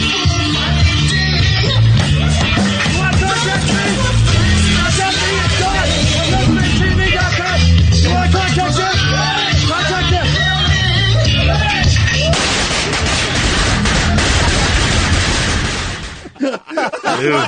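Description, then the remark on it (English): Fireworks go off inside a studio the size of a kitchen in a loud, continuous barrage of crackling bangs and pops, with people yelling and shouting over them, before the noise cuts out abruptly near the end. “Massive explosion. Massive, huge. In a room the size of your kitchen, listeners”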